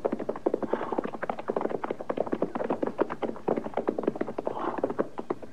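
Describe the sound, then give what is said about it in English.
Horses' hooves clip-clop steadily at a walking pace, a dense, overlapping patter of sharp knocks from more than one horse, with no voices. “All right, we'll leave the horses here.”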